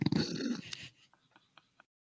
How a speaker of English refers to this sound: A fox came to Grandpa's door and roared loudly. It seemed very anxious.